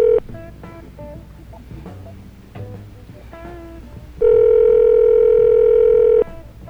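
Ringback tone over a phone line: the tail end of one ring, a stretch of quiet line noise, then a loud, steady two-second ring that abruptly stops.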